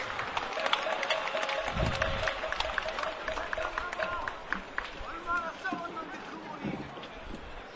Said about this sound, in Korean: 힘찬 박수로 환영해 주십시오.